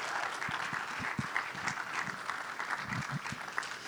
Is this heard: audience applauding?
yes